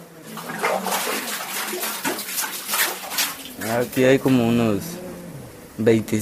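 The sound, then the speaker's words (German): A light bucket being drawn up from a well: water splashes and sloshes, then a few loud, wavering squeals, like a rope pulley creaking as it hauls the load. “Es ist leicht, Wasser raufzuholen.”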